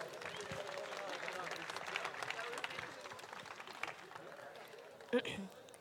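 An audience applauds steadily for about five seconds, a dense crackle of many hands clapping at once, then fades with a brief louder burst near the end.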